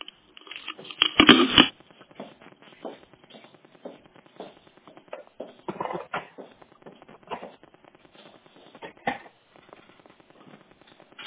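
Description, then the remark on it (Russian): Irregular rustling and shuffling with soft taps and bumps as someone rummages through a backpack searching for something, loudest early on and then continuing in scattered bursts. “Я его сунула как-нибудь неаккуратно в рюкзак.”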